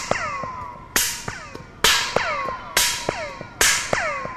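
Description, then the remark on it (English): Four sharp hand claps at a steady pace into a galvanized metal tube about 180 feet long, running from the Exploratorium mezzanine up into the rafters, each followed by a ringing, downward-sweeping zing as the echo travels back through the tube, like a laser sound. “For example, if I just clap into it”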